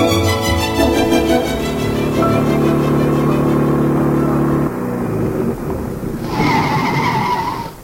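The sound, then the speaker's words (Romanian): A car engine hums and slows as it pulls up, ending in a loud, high-pitched squeal of skidding tires, as a driver arrives with the car to pick people up. “a venit August cu mașina”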